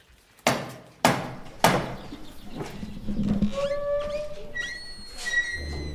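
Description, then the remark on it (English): Three loud, evenly spaced raps of a metal door knocker on the door of Blickling Hall, just after the rain has let up, followed by quiet with birds chirping and a pigeon cooing softly in the background. “why don't you knock on the knocker for us”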